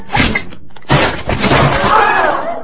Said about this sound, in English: Did you see that? Shot the lamp off the ceiling. Not even looking. Fell right down on him. Knocked him out cold. I ain't never seen nothing like it.